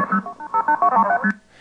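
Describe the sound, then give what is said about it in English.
A rapid run of touch-tone telephone dialing beeps from an incoming phone number being decoded by ear, roughly eight short dual-pitched tones in quick succession at varying pitches, clear and fairly loud with no voices. “Well, the easiest way to decode it for me nowadays is to just play it over and over and listen to the tones like this.”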